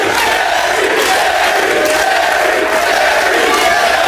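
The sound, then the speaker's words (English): The studio crowd at Jerry Springer's talk show chants and shouts in a loud, continuous roar of many voices, sustained without a break for the whole few seconds. “Spirited crowds at his show.”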